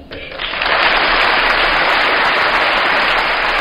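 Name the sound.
applause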